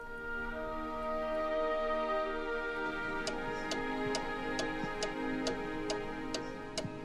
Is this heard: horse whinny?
no